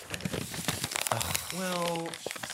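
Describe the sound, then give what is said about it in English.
Crisp crinkling of a piece of paper being crumpled, a rapid scatter of dry crackles for over a second, followed by a brief sustained voiced tone. “Just throw that piece of paper away.”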